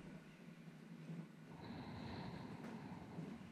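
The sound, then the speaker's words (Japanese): A train rumbles steadily along the rails, low and continuous, with a thin high-pitched squeal of the wheels joining about halfway through. No voices. “ガタンゴトン、ガタンゴトン、ガタンゴトン。”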